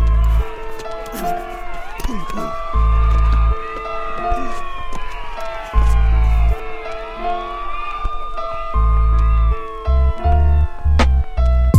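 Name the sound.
police car siren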